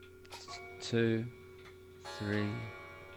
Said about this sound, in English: There it went. I don't know if you heard it or not. I did. I heard that. I like the dong of your clock. Like I said, you should bring your clock back into your podcast, mate. It's very charming.